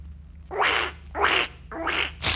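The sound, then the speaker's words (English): A broken squeaky rubber toy duck is squeezed three times in a steady rhythm, each harsh, raspy squawk lasting about half a second, with a fourth starting at the end over a low background hum. “What are you doing to that duck? It's broken.”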